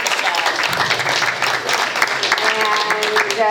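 A group of people at a meeting applauds steadily, a dense patter of many hands clapping at once, with some voices mixing in toward the end.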